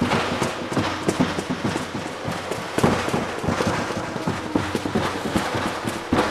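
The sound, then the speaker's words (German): Pirates' sneezing-powder cannons fire at a monster's head in a relentless barrage, dozens of booming shots tumbling over one another in quick, uneven succession, loud throughout with no voices. “Die Piraten schossen aus allen Rohren, was das Zeug hielt, genau auf den Kopf des fürchterlichen Ungeheuers.”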